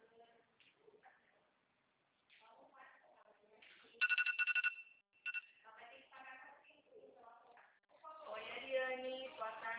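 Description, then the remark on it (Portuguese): A watch alarm goes off with a quick run of shrill electronic beeps for about a second, then one more short beep, while people talk before and after it. “Olha, eu pus meu relógio para despertar, para me esquecer de ser.”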